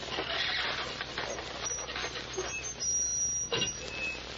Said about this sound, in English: Then the door of the safe could be heard opening.